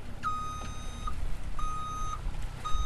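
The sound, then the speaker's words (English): A vehicle backing an aluminum John boat into the water at Crystal Lake on a hot, windy day sounds its reversing alarm: three steady, high-pitched beeps of nearly a second each, evenly spaced over a continuous low engine rumble. “Smith backs an aluminum John boat into the water.”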